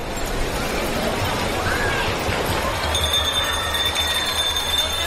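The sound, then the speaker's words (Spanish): Small procession bells ring with a thin, high, sustained chime that grows clearer partway through, announcing the Borriquilla procession returning to its home on Palm Sunday, riding over a thick, constant wash of crowd murmur and low rumble. “Esas campanillas anuncian la llegada de la borriquilla de regreso a su sede el Domingo de Ramos.”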